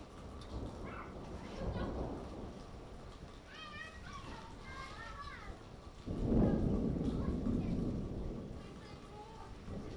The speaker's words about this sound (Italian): Mentre riflettevo, i bimbi hanno attivato una specie di magia simpatica al contrario e sono scesi a giocare sotto la pioggia.